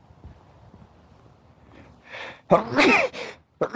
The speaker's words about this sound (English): Gosh, excuse me. Sun sneeze.